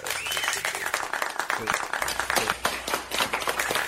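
group of people clapping

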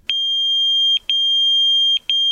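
pager beeping

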